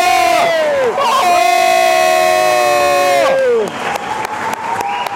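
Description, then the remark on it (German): A loud crowd of hockey fans chants in unison, sustained sung notes rising and falling together, then breaking into rhythmic shouts with sharp claps or bangs punctuating the roar. “Und hört euch die Chöre an.”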